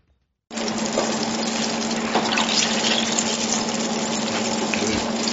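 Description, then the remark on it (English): Eggplant strips sizzle as they deep-fry in oil at Li Ho Fook, a modern Chinese restaurant in Melbourne: a dense, steady hiss with fine crackling that starts abruptly and holds at an even loudness, with a faint constant hum underneath and no voices. “The eggplant strips are sizzling in oil at Li Ho Fook, a modern Chinese restaurant in Melbourne.”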